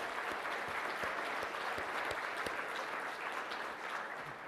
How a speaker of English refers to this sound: So a big round of applause for your program committee. Thank you, folks.